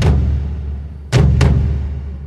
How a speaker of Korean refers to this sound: 1898년 2월 15일, 쿠바 아바나항에 정박하고 있던 미 군함 메인호에서 엄청난 폭발이 일어났다. 순식간에 배가 바닷속으로 가라앉으면서 배 안에 있던 승조원 260여 명이 목숨을 잃었다.